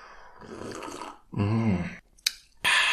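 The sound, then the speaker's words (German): Someone takes a sip of water with a squeezed lime floating in it: a soft slurp, a throaty swallow-like hum, a sharp little click, then a breathy exhale. No talking. “So, aber erstmal ein Schluck Wasser mit einer Limette ausgedrückt, die auch noch da drin rumschwimmt.”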